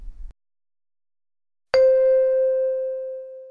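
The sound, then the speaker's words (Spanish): A single bell chime rings out after a brief low thump and a moment of silence, its clear tone sustaining and slowly fading away. It signals listeners to complete sentences in a Spanish-language listening exercise. No one speaks. “Al oír el timbre, proceda a completar las siguientes frases con la información que falta.”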